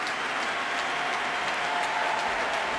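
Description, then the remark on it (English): A concert audience at the Proms applauds steadily after a performance with dancers, with everyone applauding each other: a dense wash of many hands clapping at once that holds an even, fairly loud level with no voices standing out. “Well, applause, well, for everybody, really. Everybody applauding each other.”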